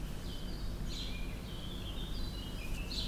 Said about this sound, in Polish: Zaraz posłuchamy, kto śpiewa. Tam kos. Tutaj kapturka.